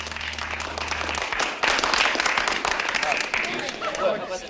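Dancers on a dance floor applaud as a dance ends: steady dense clapping that swells slightly partway through, with a low musical hum fading out at the start.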